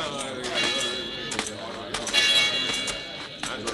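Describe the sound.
A bell clangs repeatedly in a town, rung to gather the townspeople, its bright ringing tones hanging over a murmur of voices and crowd noise, with sharp strikes recurring at an uneven pace.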